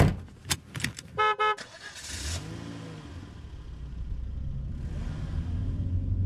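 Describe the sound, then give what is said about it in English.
A car horn gives two quick, loud honks after a few sharp clicks, then a steady low engine rumble carries on as the car drives and accelerates on the way to a dude ranch, with no one talking. “Because I'm in the car headed to a dude ranch.”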